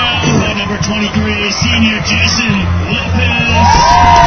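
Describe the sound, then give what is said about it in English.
A loud, dense, partisan Marblehead crowd, including some veterans, roars and cheers at a football game after a Marblehead touchdown ending a 16-play, 80-yard drive to lead 6-0, with yells and whoops rising over a steady wall of voices that swells again toward the end. “Partisan crowd, some veterans here.”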